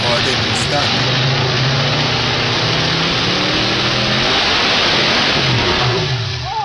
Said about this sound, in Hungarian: Ez úgy hangzik, mint hogy egy V8-as autó lenne egy teljesítménymérőpadon, és elforogna a kereke, és így beleszaladna hirtelen a tiltásba, és közben szétesne a motor.